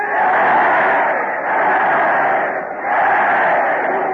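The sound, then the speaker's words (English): A large crowd at a train depot roars three loud, sustained cheers for Fred Allen in steady succession, each swelling and briefly dipping before the next, filling the space with dense shouting and no distinct speech. “Look at that crowd. They're giving three cheers for Fred Allen.”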